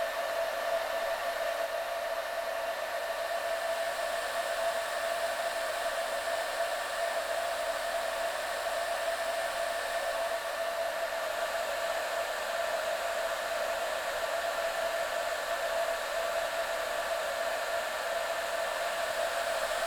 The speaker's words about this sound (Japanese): このまま軽くドライヤーしていきますね。